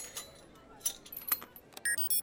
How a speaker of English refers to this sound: With your permission, Your Highness, I will attempt to pick the lock.